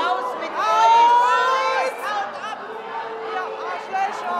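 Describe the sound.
A loud audience at a feminist author's event shouts and jeers over one another, many overlapping voices rising and falling in a dense, agitated din, loudly rejecting a protest group on stage.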